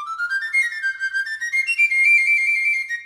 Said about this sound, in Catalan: Un flabiol dona el tret de sortida.